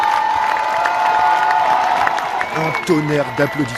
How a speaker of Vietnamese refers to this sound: Tiếng vỗ tay vang rền khi chiếc xe buýt của đội tuyển Pháp đi ngang.